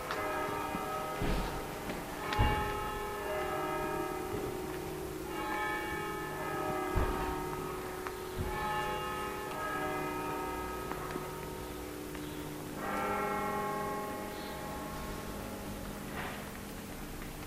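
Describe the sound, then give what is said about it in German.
The church bell of the Kreuzkirche, a classic bell, rings out in a slow series of strokes striking the hour at one o'clock, each clang swelling and overlapping the last in a rich, sustained hum, fairly loud and steady with no voices. “Da, bei dieser Glocke von der Kreuzkirche, da haben wir gehört, das ist so eine klassische Glocke, es macht bim, bam, bim, bam.”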